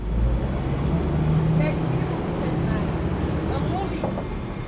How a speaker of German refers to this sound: Heute ist die Prinzengracht das Ziel der Elektroboote von Plastic Whale.